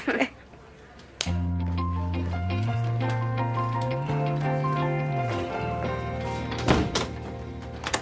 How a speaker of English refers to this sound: What's with the door locking?